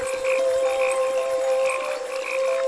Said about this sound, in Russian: И даже громогласные лягушки и звонкие сверчки, эти ночные певцы, квакали и стрекотали тихо, просто наполняя влажный воздух ровным звуком.